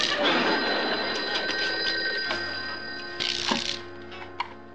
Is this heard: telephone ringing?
yes